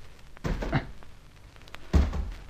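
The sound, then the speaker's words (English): Two heavy, muffled thuds about a second and a half apart as people jump down one after another onto the ground, with no talking. “Well, what do we do now? Jump down, of course.”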